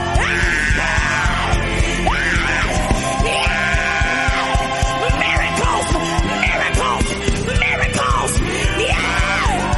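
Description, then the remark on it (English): A man's loud, sustained battle yell rises and falls in pitch, repeated in several strained bursts over a dense, continuous background of other voices and noise. “Great in battle, yeah. Hey, his yell, the one that has never lost a case.”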